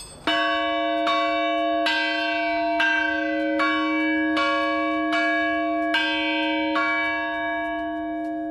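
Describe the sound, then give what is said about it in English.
A large bell at the Whitechapel Bell Foundry in East London, Britain's oldest manufacturer, rings over and over in a steady rhythm, about ten strikes with rich, sustained overtones blending into a continuous loud, shimmering hum. No voices. “That's the Whitechapel Bell Foundry, Britain's oldest manufacturer.”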